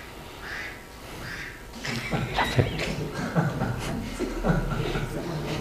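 A duck quacks several times in a row, fairly loud, with short raspy calls bunched together in an uneven rhythm over a faint background.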